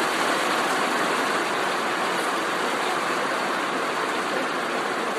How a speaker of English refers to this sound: Man, that's good rain, isn't it? That's good rain.